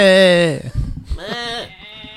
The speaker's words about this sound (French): Comme le dirait si bien la célèbre chèvre.